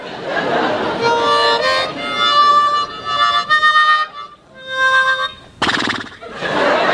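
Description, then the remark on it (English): A man's voice imitates a horse whinnying: a loud, quavering, high-pitched call lasting a few seconds, then a shorter trailing whinny, followed by a burst of breathy snorting. “That's not a horse. It's just a guy going,”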